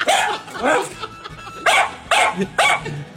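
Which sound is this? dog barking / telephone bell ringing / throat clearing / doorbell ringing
dog barking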